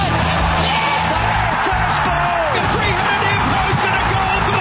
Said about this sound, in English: Stalls are back and racing. Field sent on their way to the roar of the crowd. Set. They're off.